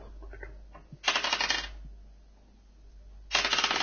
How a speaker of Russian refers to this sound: Сейчас. Мне надо тянуть кубик.